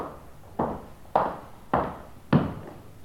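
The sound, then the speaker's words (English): Four heavy footsteps fall at a slow, even pace, each a dull thud with a short decay, fairly loud against a quiet background. “He heard footsteps.”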